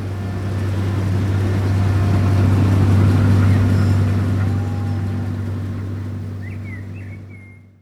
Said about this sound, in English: Then the farmers cut the wheat. Some farmers use a big machine.